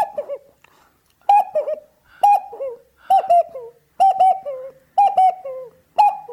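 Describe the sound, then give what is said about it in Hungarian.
A voice imitates a hooting owl or cuckoo call as a vocal sound effect, repeating a warbling two-part coo about six times at a steady, roughly once-per-second pace, fairly loud with no talking. “Lehet az egy szabadalmam, az a bagoly, vagy kakuk, vagy valami hasonló hang, ez a...”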